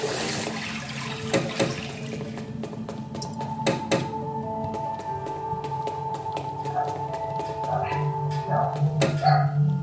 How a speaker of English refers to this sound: Sorry, it's my dog barking. Oh, she's loud.